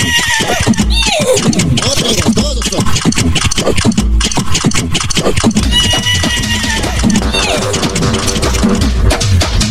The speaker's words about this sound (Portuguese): Relincha a cavala.